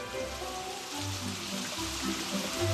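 rain falling

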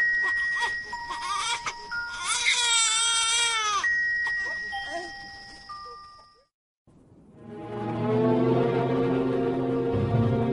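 baby crying

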